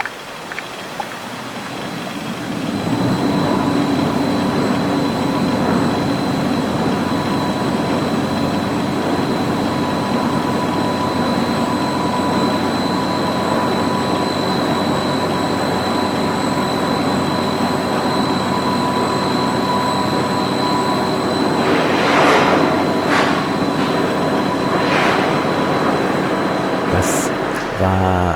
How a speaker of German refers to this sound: Kleiner Sound, der ist gestern beim Bouncen verloren gegangen, den wollte ich euch gerne noch nachliefern. Das waren die Maschinengeräusche aus der Staatsoper Unter den Linden, die erklungen sind, als das Orchester eben nicht ganz sang- und klanglos